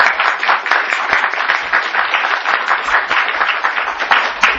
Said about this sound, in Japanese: 皆さんもう一度拍手を。